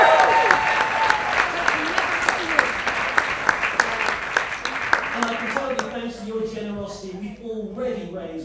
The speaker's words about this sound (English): All the nominees and everyone in this room are winners, and we're also going to celebrate Cornwall Air Ambulance as well. And I can tell, again, big cheer for Cornwall Air Ambulance.